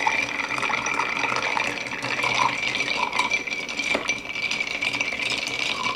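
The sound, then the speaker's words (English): Ice cubes clink and rattle steadily inside a mixing glass as an Akavit cocktail is stirred, a continuous bright jingling churn with no pauses and no talking. “So we really want to make sure that we stir this for a while.”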